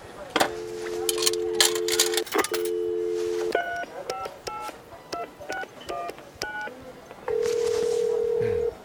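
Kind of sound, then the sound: signal or alarm, telephone dialing and ringing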